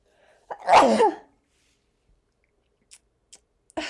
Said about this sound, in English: Have I ever sneezed on the podcast? I'm sure I have. If not, there you go. I typically will sneeze 2, maybe 3 times, always twice.